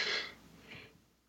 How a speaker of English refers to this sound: … panting. Somebody has their subtitles on.